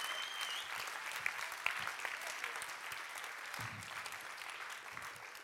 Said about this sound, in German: Jetzt seht ihr mich bald nicht mehr in der Leinwand oder doch, wow, die Kameraleute, die sind toll hier, ne? Ja, ein Applaus für die Technik.